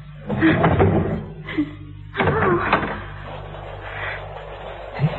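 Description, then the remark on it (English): A locked door is unlocked and opened: a few clunks and rattling knocks in short bursts, over a steady low hum. “The door's locked. So it is. Well, I'll have to unlock it, won't I?”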